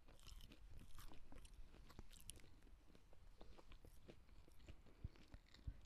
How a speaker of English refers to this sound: Are you okay? I'm sorry. I'm chewing it in the microphone.